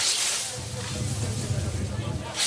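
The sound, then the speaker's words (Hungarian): Two broad, hissing swishes of a scythe slicing through standing grain in a traditional hand harvest at a harvest-day event in the Jászság region of Hungary, one at the start and one at the end, with a low outdoor rumble and faint murmuring in between. “És így arattak régen kaszával.”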